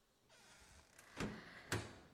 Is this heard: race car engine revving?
no